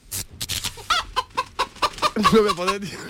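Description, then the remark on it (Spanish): Chickens at a Utrera chicken or rooster championship cluck in a quick, irregular string of short, sharp notes, ending in a longer, wavering squawk. The birds sound fairly loud, with no one talking. “una vez que tuve que hacer una crónica de era un campeonato que había de gallinas o gallos, utrerano, no me acuerdo.”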